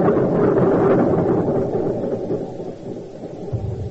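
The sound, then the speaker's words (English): Depth charges dropped by an enemy vessel within 1,000 yards explode around a submarine in a heavy, rolling roar, a deep low rumble that stays loud for several seconds before easing slightly and surging again, with no voices. “They started laying their eggs.”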